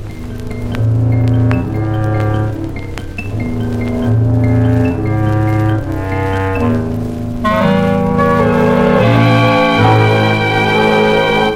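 An old gramophone record plays a song, with steady, sustained accompaniment and a melodic line that rises brighter toward the end, at a constant, moderately loud level.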